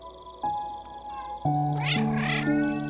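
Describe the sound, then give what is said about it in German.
Several cats on a meadow with tall grass meow and yowl, their tonal, drawn-out cries overlapping, with a rising, wavering call in the middle and sustained meows continuing to the end. No one speaks. “Sie führt dich über die gesamte Wiese, auf der du noch einige weitere Katzen entdeckst.”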